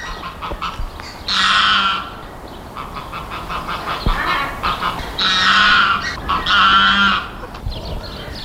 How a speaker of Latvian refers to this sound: Esmu Rīgas Nacionālajā zooloģiskajā dārzā pie putnu novietnes, kur dziedāšanā ar vietējiem strazdiem un zvirbuļiem sacenšas meža zosis.